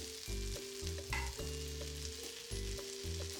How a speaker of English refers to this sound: Heat some butter in a frying pan. 2. Put a spoonful of the pancake mixture on the hot frying pan.